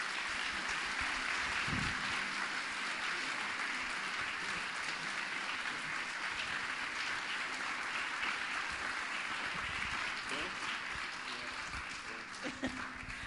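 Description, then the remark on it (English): A crowd applauds steadily at the close of a discussion event, a dense wash of clapping that holds at a constant level for the whole stretch, with a few louder individual claps standing out near the end. “Can you please give Bo and Paul a round of applause?”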